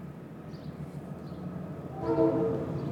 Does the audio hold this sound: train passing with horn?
yes